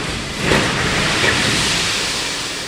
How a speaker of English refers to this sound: The gravel shoots into the water, sending waves across the pool.